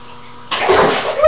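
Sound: water splashing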